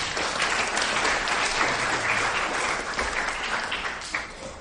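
Sustained audience applause for the Karen prayer team at a service: a dense, steady wash of many hands clapping for several seconds, fairly loud, easing off slightly toward the end with no talking over it.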